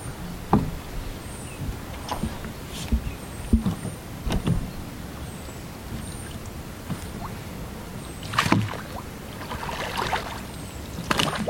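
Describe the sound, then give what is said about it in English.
A man rows a small boat away across a calm reservoir in a narrow forested valley; oars dip and knock at an unhurried, irregular pace, with soft splashes and wooden creaks over a quiet watery background; no one speaks. “One man unmoors his boat and rows away, barely rippling the tranquil waters.”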